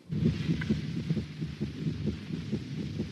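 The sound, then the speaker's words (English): The heartbeat of an unborn child, broadcast in an NBC telecast from Colorado General Hospital in Denver before a cesarean birth, thumps in a fast, steady rhythm, muffled and low, with a whooshing hum underneath and no voices. “You are listening to the heartbeat of an unborn child, heralding its readiness to enter this world.”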